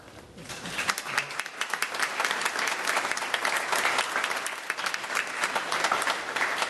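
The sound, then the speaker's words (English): An audience applauds steadily to greet the chaplain of the Division of Police, City of Columbus, the dense clapping swelling quickly and holding at a lively level for several seconds without a break. “Now, that doesn't go over well if you clap for me and not for the others.”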